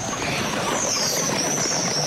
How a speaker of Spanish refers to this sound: El sonido más importante para mí fue el aleteo cuando se fueron todos para el árbol, todos.